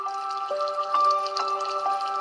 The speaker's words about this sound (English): Our background today is the bamboo water fountain, and I hope you enjoy it. Here it comes.